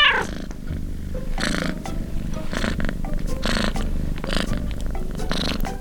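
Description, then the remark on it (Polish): Lucky, a rescued and hand-fed cat, purrs loudly, a steady low rumble that swells in rhythmic pulses with each breath, with no voices or other sounds. “Lucky, bo tak się nazywa ten kot, bo udało mi się ją uratować i wykarmić.”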